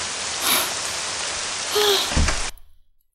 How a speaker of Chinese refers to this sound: 天哪，下雨下的可真是又大又突然。全身上下都淋湿了，可真大呀，这雨点打的身上生疼生疼的。